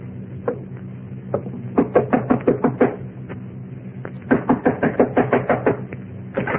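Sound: knocking on a door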